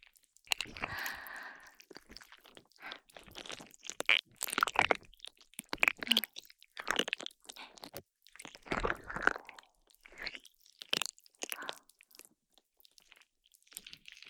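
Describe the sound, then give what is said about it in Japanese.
Wet squelching and crackling bursts come in irregular clusters as a special slime mixed with aroma oil is squeezed and kneaded, with brief quiet gaps between squishes and no talking. “音はこれぐらいでいいかな？じゃあ、泡同様にこのスライムを君のお耳にくっつけてマッサージするわよ。”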